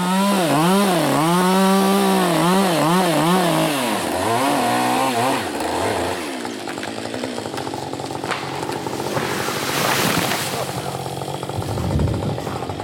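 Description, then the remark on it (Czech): A chainsaw felling a chestnut tree, cut by professional firefighters, revs in quick rising and falling bursts, then settles into a loud, steady cutting roar through wood, with harsh crackling surges toward the end as the tree gives way. “Celý příběh rozčílení nad pokáceným kaštanem se tak uzavřel poněkud paradoxně.”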